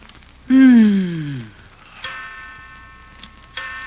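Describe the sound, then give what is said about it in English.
A clock strikes three o'clock with three resonant, ringing strikes spaced about a second and a half apart, the first loudest. Faint ticking runs quietly underneath, with no voices. “Yeah, I know it's 3 o'clock.”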